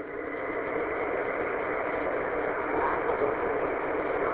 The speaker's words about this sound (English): I just hopped in the car on a little commute to work